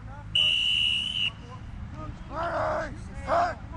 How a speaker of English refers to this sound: On a cloudless October afternoon, dozens of sweaty teenagers in white and green uniforms run through practice drills at De La Salle High School. Okay, here we go, whistle.